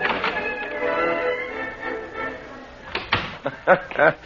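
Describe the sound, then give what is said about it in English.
A voice talks at first, then a door opens with a few sharp clicks and knocks of the latch and handle, moderately loud, in quick irregular succession. “Just open the door behind you”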